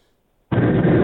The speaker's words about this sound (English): So I just jumped in my car and I caught the last little second of hearing Drew's gun.